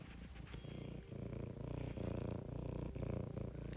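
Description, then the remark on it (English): A cat purring steadily, a low continuous rumble pulsing in a quick regular rhythm, with no other sounds around it. “Oh, you want to purr for him?”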